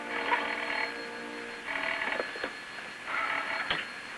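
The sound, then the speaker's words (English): A telephone rings in three bursts separated by short pauses, its bright trilling bell clear, with no voices. “She takes the phone.”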